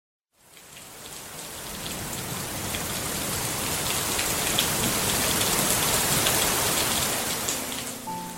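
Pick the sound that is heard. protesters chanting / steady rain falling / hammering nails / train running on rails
steady rain falling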